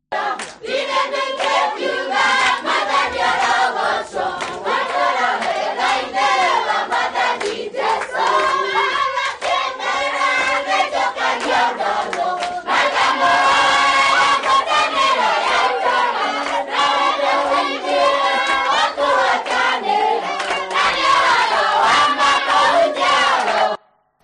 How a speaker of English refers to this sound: Looks pretty jubilant, doesn't it? Dancing and shouting for joy.